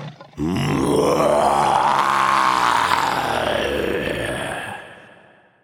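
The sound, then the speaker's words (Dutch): A person's voice imitates the roar of Lambert, a lion in a story, opening his mouth and roaring: one long, loud, rough growl lasting several seconds, its pitch swelling upward and then sinking before it fades out. “Hij opent zijn bek en brult.”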